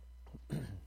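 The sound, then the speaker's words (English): A preacher gives a single short throat clearing, a rough, gravelly burst lasting under a second, over a faint low hum. “I think I talked too much this week, I only preached once today, this morning already, but I keep clearing my throat like a frog's in it.”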